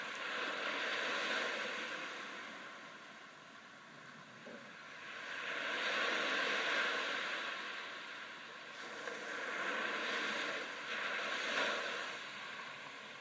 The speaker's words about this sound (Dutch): Je hoort nog steeds de golven van de zee.